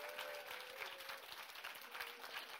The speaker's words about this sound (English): They're even clapping for you. Okay, clap for him.